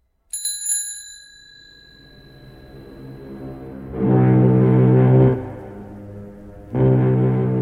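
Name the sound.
bicycle bell ringing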